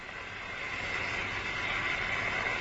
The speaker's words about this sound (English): It's starting to boil, so I'm going to put the recorder near the unit so you can hear it.